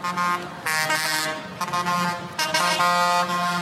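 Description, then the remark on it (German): Loud, blaring horns from tractors driven by angry farmers protesting the federal government's agricultural policy in Berlin, Germany, honk over and over in overlapping bursts, some long and sustained, others short toots, with a rumble of convoys of large agricultural machines underneath. “Ja, so klingen wütende Traktorfahrerinnen und Traktorfahrer.”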